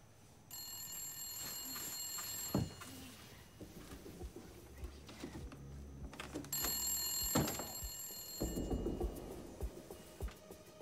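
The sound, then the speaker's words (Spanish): A telephone bell rings in two long, shrill bursts separated by a few seconds of quiet, loud, with low rumbling movement underneath, on the night of June 24, 1974. “Mientras se apresuró hacia el teléfono y la grabadora, esperaba al fin obtener algunas respuestas.”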